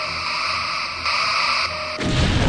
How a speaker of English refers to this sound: Weak phaser beams hitting them simultaneously in 6 or 7 different places. Their screens will shatter like glass.